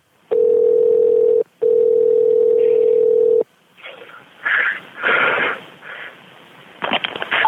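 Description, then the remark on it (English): A steady, mid-pitched telephone dial tone hums loudly for about three seconds, broken once by a brief gap, then gives way to scattered rustling and breathy noises. “On the phone.”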